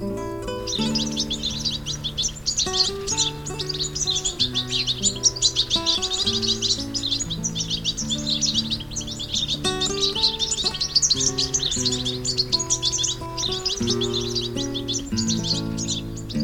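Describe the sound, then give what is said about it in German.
A European goldfinch sings a continuous, rapid stream of bright twittering and tinkling notes, lively, layered over soft, sustained low musical tones throughout. “Das war der Stieglitz.”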